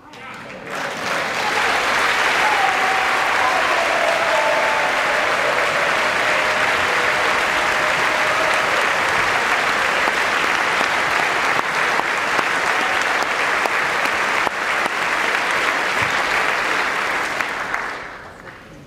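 Steady, even applause from an audience for a 10-year-old cancer survivor, a continuous wash of clapping that holds at a moderate level for about seventeen seconds before fading out, with no cheers or whistles.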